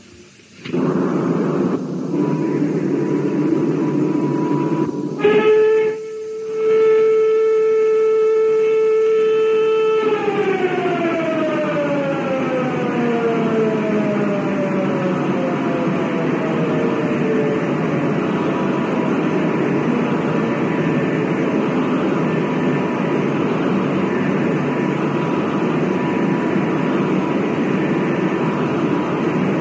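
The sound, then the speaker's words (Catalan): An air raid siren sounds a steady, loud wail, then slowly winds down in pitch over many seconds, against a constant broad rumbling background with no voices. “Vagarejo tot sol pels carrers en silenci i cada vespre escolto el cant de les sirenes des del terrat de casa.”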